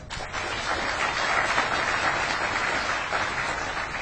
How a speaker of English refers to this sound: He's a good sport, so a round of applause, please.